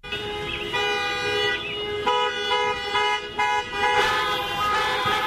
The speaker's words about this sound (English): yes, car alarms. You know the sound. It's the one that keeps you up at night, the one that makes you and your neighbors peer out the window and send dirty looks to the car owner as he or she walks over to turn it off.